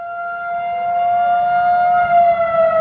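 A loud outdoor emergency weather siren in Dallas holds a steady, sustained wail with a slow, slight pitch drift over low background rumble with no voices present; all 156 city sirens went off for over an hour on a Friday night after the system was hacked, with no weather emergency.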